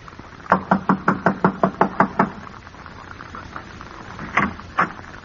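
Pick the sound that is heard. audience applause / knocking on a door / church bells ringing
knocking on a door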